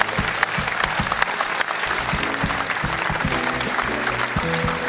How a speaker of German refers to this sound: Einen kräftigen Applaus bitte. Dankeschön.